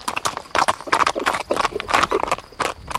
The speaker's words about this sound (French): Angelo poussa son cheval qui prit le trot.